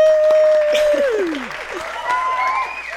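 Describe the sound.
An audience applauds steadily for about three seconds, dense clapping with a few sliding whistle-like cheers and voices rising above it.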